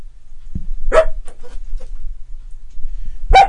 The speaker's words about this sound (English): And dog barking in room, very annoying.